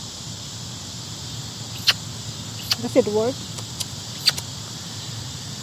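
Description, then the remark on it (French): A handheld sparrow call gives a few sharp, high chirps and a short wavering squeaky whistle, spread over several seconds against a steady hiss, with a person briefly speaking. “That one's for sparrows.”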